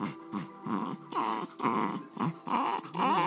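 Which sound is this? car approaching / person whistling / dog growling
dog growling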